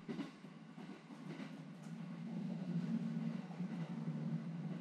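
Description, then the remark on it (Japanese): An electric train rolls along the rails with a steady, low rumbling drone, heard from inside a carriage while riding it, slightly swelling midway; soft track noise continues throughout with no talking. “今乗っている電車にだって命を預けているわけですから。”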